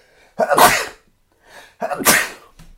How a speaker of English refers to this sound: I think I'm going to sneeze soon.